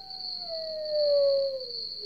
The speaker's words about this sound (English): We've added some sounds. Mm-hmm. We're listening to them right now. Maybe a lone coyote.